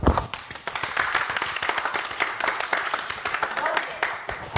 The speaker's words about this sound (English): For like 15 minutes, they clapped for us getting off the plane. It was unbelievable.